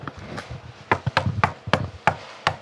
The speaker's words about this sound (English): Please knock loudly.